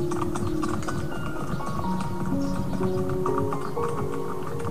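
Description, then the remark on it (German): Icelandic horse hooves clip-clop in a brisk, steady rhythm, continuous and fairly loud, with soft sustained tones humming underneath and no talking. “Doch dann brauchen eure Pferde eine Pause. Du steigst ab”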